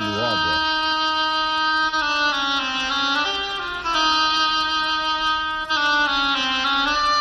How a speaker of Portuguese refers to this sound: O pato, pelo óboé.